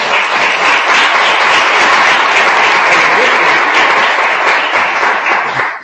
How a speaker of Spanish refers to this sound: Y sí, os pido por favor un gran aplauso, por favor, para todos.